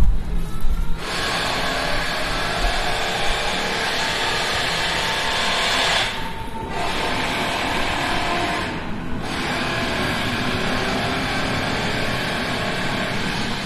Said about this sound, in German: Oh, da kommt eine S-Bahn.